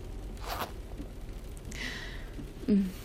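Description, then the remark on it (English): A zipper is pulled up in a couple of quick strokes, a short scratchy rasp followed by a longer sliding zip, fairly quiet over a soft background hiss with no talking. “And zip you up.”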